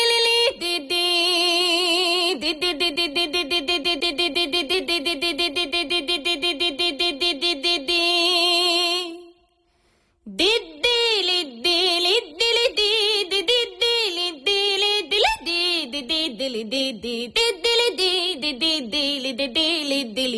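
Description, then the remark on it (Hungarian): A voice imitates a Rábaköz bagpipe (duda) with a nasal, buzzing drone and rapid pulsing articulation. After a brief pause around the middle, it continues loudly with a lively, wavering melody. “Rába közi Duda utánzást hallhatunk”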